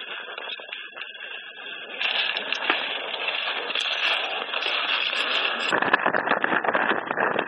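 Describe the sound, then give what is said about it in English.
Strong wind in Antarctica roars steadily as a harsh, hissing rush. It grows louder after a couple of seconds, then turns into deep buffeting gusts that rumble and crackle toward the end. “It is very windy.”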